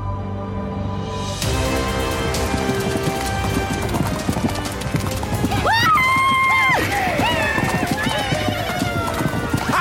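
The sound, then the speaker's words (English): A horse's hooves clip-clop steadily and loudly, with a couple of high, wavering whinnies breaking out near the middle and again toward the end, over a dense busy background. “A horse! A horse! This kingdom for a horse!”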